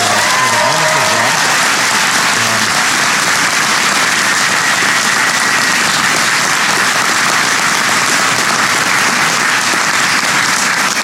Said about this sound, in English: And I have to say, please give Tolu another round of applause.